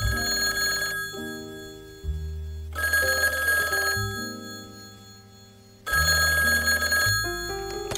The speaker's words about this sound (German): Unsere beiden Detektive wollen gerade etwas zu essen bestellen, als plötzlich das Telefon klingelt.